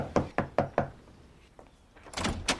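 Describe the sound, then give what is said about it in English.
Four quick, evenly spaced knocks rap firmly on the wooden front door of an impressive Los Angeles mansion, loud, followed by a brief pause and then a rustling, scraping sound like the door being opened. “He eyes his hand and climbs the front steps, baring his teeth in an angry grimace. He knocks.”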